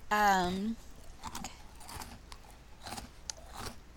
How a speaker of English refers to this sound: Now you're getting the full chew. Okay. It's not... Okay, it came from a bakery. Was it an Italian bakery? No. Okay, just a bakery. It sounds like crunchier than like a croissant or like a muffin.